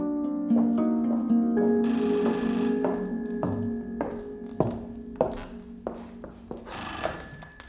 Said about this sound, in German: Am Abend ist sie dann verzweifelt und müde nach Leipzig zu ihrer Freundin Gila gefahren. Und jetzt klingelt hier bei Gila das Telefon.